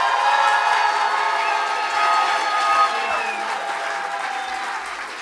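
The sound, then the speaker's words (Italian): A loud, sustained burst of audience applause, measured with an applause-meter app after a countdown from three, dense clapping with some cheering mixed in, holding steady for several seconds before easing slightly toward the end. “Dobbiamo fare l'applausometro.”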